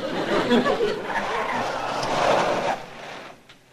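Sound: car arriving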